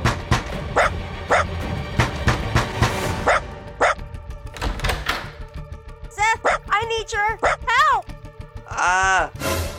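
A dog barks in a rapid burst of sharp, loud yelps, then breaks into high, wavering whimpers and whines toward the end.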